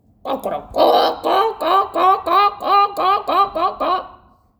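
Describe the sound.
A voice imitates a rooster's clucking, a quick run of about ten rhythmic, nasal bursts, fairly loud, fading at the end.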